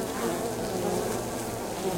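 A dense, steady drone of many honeybees buzzing together, continuous, forming a thick humming swarm sound with no voices present.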